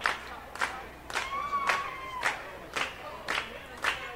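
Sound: audience hand clapping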